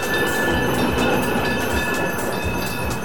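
tram passing on rails

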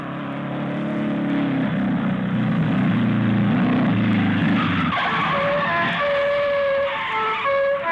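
car arriving and braking

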